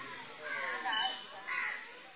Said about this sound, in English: So we're sitting here in the soft dust. A few crows are making their sounds.